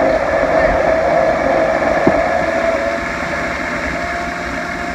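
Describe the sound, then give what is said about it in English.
A kitchen blender mixing batter with vinegar whirs with a steady, loud motor drone, then its sound softens slightly as it is turned off and starts to slow down toward the end. “I'll turn the blender off because you don't want to mix it all up completely and blow all your air bubbles away.”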